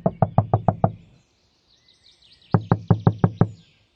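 Two quick rounds of about six firm knocks on a car's passenger door, sharp, separated by a short pause, with faint bird chirps in the background.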